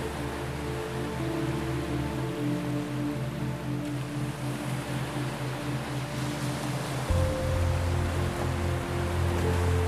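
Ocean waves wash steadily onto a sandy beach in a continuous, hissing roar, with a low droning hum underneath that grows slightly louder toward the end. No one speaks.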